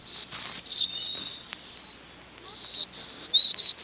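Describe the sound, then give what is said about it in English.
A black-throated green warbler sings two buzzy, high-pitched phrases of wheezy zee notes, with a short pause between them, clear over a quiet background. “Black-throated green warblers are easy to identify by song, singing zee-zee-zoo-zoo-zee or zee-zee-zee-zoo-zee.”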